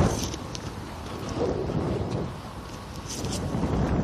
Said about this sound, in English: Almost at the end of the long eastern reach, getting ready to make the turn northward. Boy, the breeze is a bit sharp there at the corner.